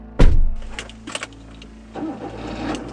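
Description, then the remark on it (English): A car engine turns over with a sharp, loud burst and settles into a low rumbling idle with a few clunks. It then revs up as the car pulls away, heading off to Santa Barbara. “The next day, I got in my car and headed off to Santa Barbara to find Dolores Cantwont.”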